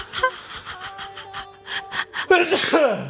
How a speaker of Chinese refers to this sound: 好，我有点打喷嚏啊，等一下啊。